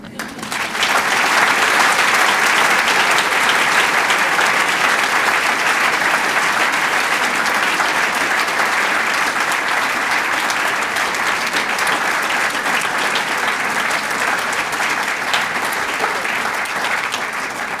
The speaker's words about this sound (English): And can you please join me in congratulating her with applause as we launch this book.